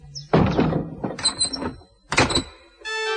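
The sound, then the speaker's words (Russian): A heavy wooden shed door creaks and thuds shut as a father locks it behind him, followed by a couple more knocking clunks and a sustained squeaky metallic scrape as the lock or bolt is worked, fairly loud. “Эмиль плакал, только пока папа не запер за собой дверь сарая.”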